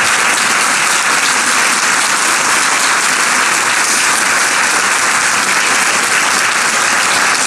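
A large audience claps steadily for several seconds in honor of two women veterans of the 6888, the only unit of African American women in the Women's Army Corps to serve overseas in World War II; a dense, sustained wash of applause at a loud, even level with no speech over it.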